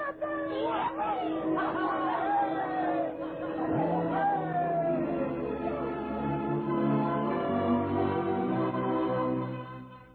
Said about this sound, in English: The bells of the Baptist, the Congregationalists, and the Roman Catholic Church were ringing. We were all jumping up and down, shouting and screaming, laughing